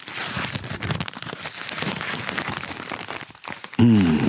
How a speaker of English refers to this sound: Wait, that paper's good, AMSR. Ooh, yeah. Is this good paper? Well, it's the, what do they call that? Like deli paper? Yeah, parchment paper.